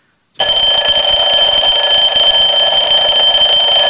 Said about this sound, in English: Do you hear the alarm?